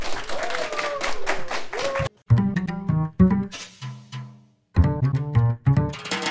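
An audience of classmates claps and cheers after a student speech in a dense burst of applause for about two seconds, then it cuts off as a song with singing and steady rhythm begins.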